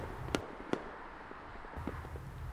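Two sharp bangs of fireworks going off in quick succession, followed by a few softer pops over a low, steady background rumble.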